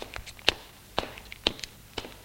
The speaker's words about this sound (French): La nuit, il est réveillé par des pas dans le couloir.